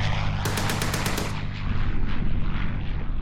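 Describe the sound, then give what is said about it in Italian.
A rapid burst of about eight heavy gunshots from the anti-aircraft guns of a militia anti-aircraft battery aimed south, loud and sharp, followed by a rumbling, booming echo that lingers over a low continuous drone. “I cannoni sono puntati a sud. La 17ª batteria antiaerea Legione Milizia è pronta.”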